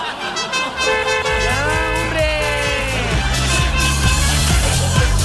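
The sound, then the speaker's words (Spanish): A car horn blares loudly in long, steady tones that waver slightly, followed by a series of shorter rhythmic honks over a low rumbling engine. “No, sí, el ratoncito es el que le gusta andar apretando el tema de la bocina.”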